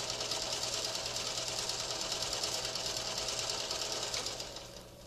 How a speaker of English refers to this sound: Oh, I know what that is. It's a sewing machine.